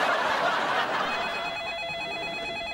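telephone ringing

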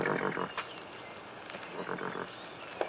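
horse vocalizing

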